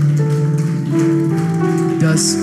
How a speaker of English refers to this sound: Somebody give Jesus a great hand clap of praise.